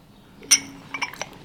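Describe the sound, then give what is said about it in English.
A porcelain teacup lid is lifted off a cup of tea so the tea can be sniffed, with one bright, ringing clink, followed by a few softer, quicker taps of china against china, with no talking. “All right, I'll let you both just lift up the lid and sniff that.”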